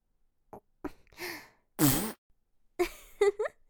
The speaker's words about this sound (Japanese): ごめんなさい。高ぶりすぎてガス漏れしちゃった。でもせっかくのおならなんだし、しっかり嗅いでよね。私のスパイシーなおならガス。